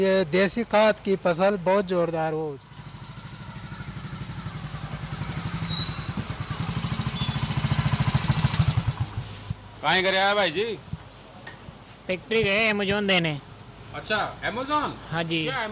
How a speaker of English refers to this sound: Two motorcycle couriers have just returned from delivering cow dung cakes, which were purchased online.